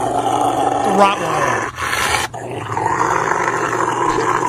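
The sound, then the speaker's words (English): A Rottweiler growls and snarls continuously while being bathed and shampooed, a deep rumbling broken by brief pauses and sharper vocal bursts, with faint background noise throughout. “This is a Rottweiler who does not like to get a bath.”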